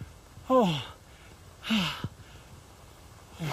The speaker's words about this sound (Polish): Nie mogę złapać oddechu.